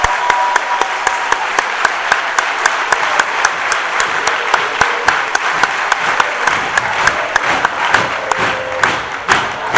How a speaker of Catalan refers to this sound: Un aplaudiment.